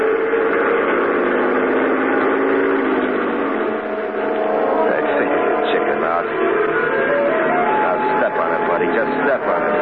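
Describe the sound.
A truck engine runs with a steady, loud droning hum, its pitch climbing slightly in the last few seconds as if revving, with indistinct voices mixed underneath.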